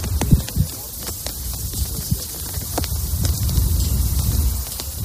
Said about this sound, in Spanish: Poner la piel de gallina, escuchar cómo se mueven las banderas, el ruido del viento.